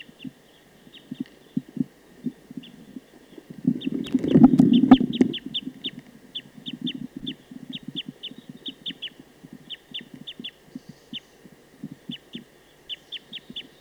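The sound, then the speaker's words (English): A wild bird calls rapidly from a tree about 50 meters from a bird-netting site, a quick, steady series of short, high-pitched notes repeated throughout. Low, soft thumping runs underneath, with a brief rumbling burst early on. “So recording that bird again.”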